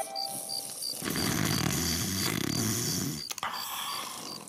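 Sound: man snoring loudly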